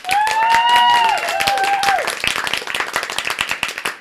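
A crowd bursts into steady applause, many hands clapping densely and loudly, with a high, sustained whoop of cheering rising over it in the first two seconds before the clapping carries on alone.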